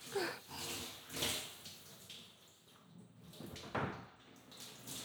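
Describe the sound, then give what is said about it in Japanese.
Steady hiss of hot shower water being sprayed onto a person, swelling and easing in uneven surges as the stream shifts, with no voices over it. “お湯加減どうですか？ちょうどいい？オッケー、オッケー。で、シャワーだけじゃオイルは落ちないよね。”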